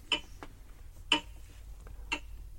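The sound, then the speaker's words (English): A clock ticks steadily, one sharp tick about every second with softer clicks in between, close by against a low background rumble and no voices. “Oh, he must have been next to his clock.”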